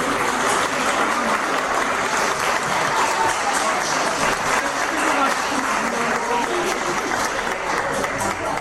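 An audience applauds loudly and steadily, a dense wash of many hands clapping that holds for nearly nine seconds without fading, with faint voices mixed into the crowd noise.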